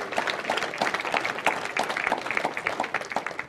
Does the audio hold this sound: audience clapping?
yes